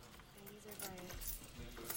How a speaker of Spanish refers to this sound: Con cuidado, usa una herramienta de su llavero para aflojar los tornillos de la ventanilla divisoria.